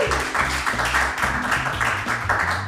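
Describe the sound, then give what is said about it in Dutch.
An audience applauds two men steadily for a few seconds, a dense, even wash of clapping, while a low, rhythmic bass line plays underneath. “Even applaus voor deze twee heren.”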